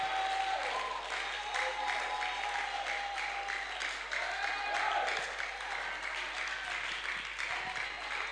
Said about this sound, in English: Oh, your clapping and shouting is not commensurate with the power of God that is being released now.